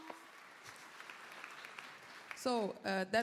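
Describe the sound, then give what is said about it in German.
Steady audience applause at the Congress, a dense wash of hand claps at moderate volume, fades out as a voice starts speaking over the final second. “Das war eigentlich euer Applaus und für euch von unserem Publikum hier.”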